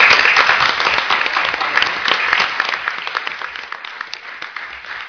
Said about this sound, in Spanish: Nosotros le apoyamos, le queremos y sabemos que está a punto de salir ya del hospital, o sea que deseamos su pronta recuperación y le vamos a mandar, si os parece, un aplauso desde aquí muy fuerte para Nacho.